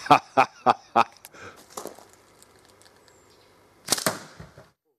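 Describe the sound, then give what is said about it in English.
A 20 mm steel ball is fired into a plastic bottle set on top of a catch box and filmed with a slow-motion camera: four quick, evenly spaced sharp cracks, a few softer clicks and rattles, then a louder crackling burst of impact that fades out. “And on the top of my catch box, we'll put different bottles, plastic bottles, glass bottles, to see how they shatter in slow motion.”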